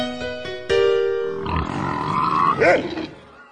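Comic pig grunts: a few short, nasal snorts at first, then a louder, drawn-out rasping grunt that rises into a squeal near the end, with no talking.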